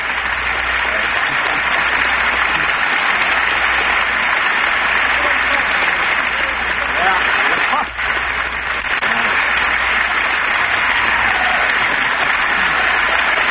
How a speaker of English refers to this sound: he thought he might be interrupted 35 times for applause on this speech, in case any of you want to keep going.